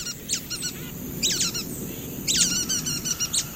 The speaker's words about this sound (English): A resourceful bird, the nuthatch.